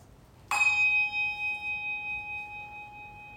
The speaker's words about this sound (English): So let's have a little ring of the bell and some quiet.